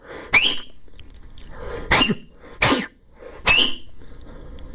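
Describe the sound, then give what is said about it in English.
Four sharp, breathy blasts of air at uneven intervals, each with only a faint squeaky tone: someone trying and failing to produce a loud finger whistle to hail a cab, with no talking. “You want to give me can I give you my whistle over the air of how to get a cab?”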